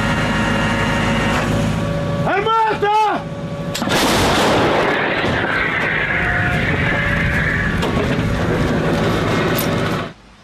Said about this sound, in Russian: За лічені хвилини підготовки – перші залпи.